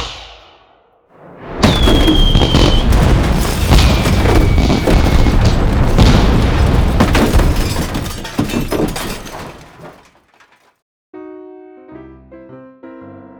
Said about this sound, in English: Please prepare to eject the fireworks.